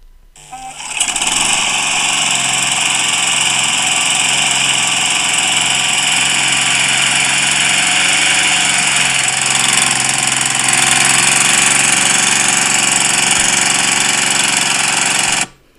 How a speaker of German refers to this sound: Kannst du die Geräusche der Motoren schon hören, die offen durch das Autofenster hindurch tönen?